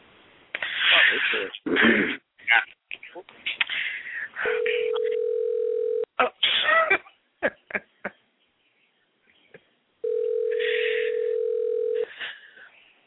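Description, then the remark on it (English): A telephone ringback tone sounds twice as a show host calls someone during the show, each a steady, loud hum lasting about a second and a half, separated by a pause. Muffled bursts of voices and noise come before and between the rings. “Everybody ain't gonna not answer the phone now.”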